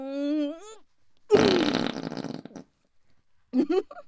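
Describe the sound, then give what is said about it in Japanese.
A loud, drawn-out raspy fart lasting over a second, flanked by brief vocal sounds from a woman before and after it. “やだ、屁こくたびに体びくついてるじゃないですか。”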